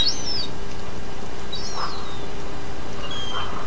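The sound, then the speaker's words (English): A few separate gull calls, high, wavering mewing cries spaced a second or so apart, rising over a steady hiss of outdoor background noise, in Grand Marais, as gulls are coming down one at a time. “Gulls finally are coming down.”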